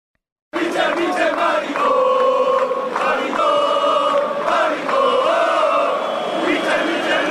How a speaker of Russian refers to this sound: А до этого пытался заставить вот между этими двумя мячами судью остановить игру, потому что болельщики Барселоны обзывали его голубым по ходу матча. Вот давайте гомофобские кричалки послушаем эти.